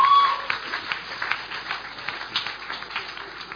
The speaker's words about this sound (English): I thought somebody would say amen to that. I was expecting hand claps and shouting.